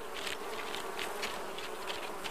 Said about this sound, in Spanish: Dime algo, ¿dónde aprendiste que las abejas no se espantan?